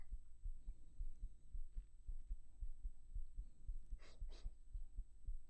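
A young man's steady, muffled heartbeat thumps in a regular low rhythm, with a couple of soft breaths rising over it near the end.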